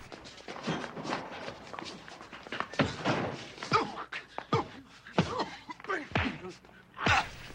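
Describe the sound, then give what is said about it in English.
A flurry of dull thuds and heavy blows lands in quick, irregular succession as one man repeatedly thumps another in a fight, with grunts and scuffling movement between the hits. “He thumps him repeatedly, exhausting himself before struggling to his feet.”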